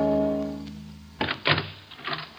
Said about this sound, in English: a knock sounds on the door of his fourth floor walk-up apartment. He goes to the door and opens it.